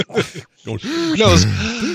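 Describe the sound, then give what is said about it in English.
A voice imitates the heavy breathing of a woman in a movie: breathy gasps followed by a run of drawn-out, moaning exhalations, fairly loud. “Anyway, could the movie have had more equipment or items make the breathing lady sound?”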